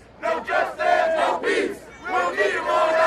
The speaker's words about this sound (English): Tensions were high as more than 100 gathered around the Western District Police Station Wednesday night. Police blocked streets with their cars, and they set up a concrete barricade. The barricade aggravated many in the crowd